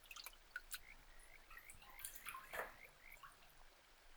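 Quiet river water sounds: scattered drips and small splashes as water is scooped and poured, with a brief fuller trickle in the middle, all fairly soft, with no talking.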